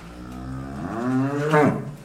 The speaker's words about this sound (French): Alors, on l'entend, les vaches étaient très heureuses de gambader dans les prés parce qu'il y avait eu beaucoup de pluie. Donc là, il faisait beau ce jour-là.